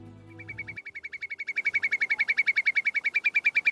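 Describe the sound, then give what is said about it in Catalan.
A bird sings a rapid, steady series of bright, repeated chirps that quickly grow louder and continue in an even rhythm, heard alone after a brief low hum at the start. “El sentiu? Són ocells. Els ocells canten d'allò més bé.”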